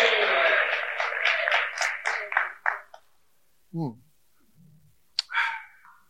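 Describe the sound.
An audience bursts into loud, dense applause that holds steady for a couple of seconds, then thins out and stops. A few brief voice sounds follow in the quiet.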